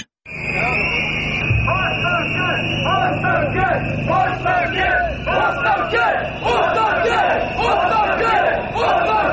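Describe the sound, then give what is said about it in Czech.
Shrill protest whistles shriek almost continuously above a loud, dense crowd of several thousand people marching through the streets of Belgrade, Serbia, protesting the night-time demolition of buildings in the Savamala district; the piercing high tone holds steady while many voices shout and chatter underneath. “Pištaljke i isti zahtev odzvanjaju ulicama Beograda peti put u posljednja dva i po mjeseca, otkako su pod okriljem noći nepoznati ljudi sa fantomkama srušili objekte u kvartu Savamala.”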